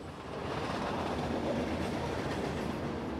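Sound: freight train passing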